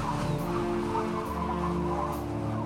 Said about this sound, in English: There are big waves crashing against our ship. And a wild, whistling wind.